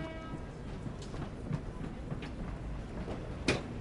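A train sits at a platform with a steady low mechanical rumble and hiss, a faint tonal whine fading early on, and a couple of sharp metallic clanks near the end. No one speaks.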